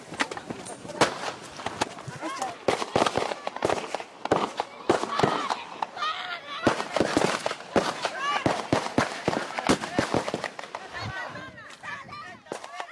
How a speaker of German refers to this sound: Die Schüsse wurden in die Luft abgefeuert, dennoch bedeutete der Angriff eine neue Eskalationsstufe.